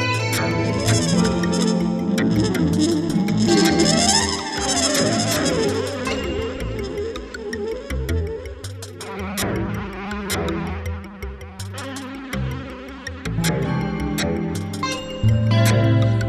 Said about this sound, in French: Loin du murmure des villes et des odeurs d'essence, sentir dans la chaleur la stéréo des mouches.